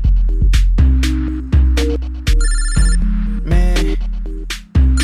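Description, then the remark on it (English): An electronic phone ringtone plays a repeating melodic pattern of bright tones over deep, booming bass pulses, loud, with no one speaking. “I shouldn't answer this phone, yo.”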